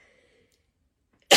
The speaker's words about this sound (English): And I'm going to sneeze because of the smoke.